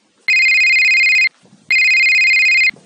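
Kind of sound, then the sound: signal or alarm, mobile phone ringtone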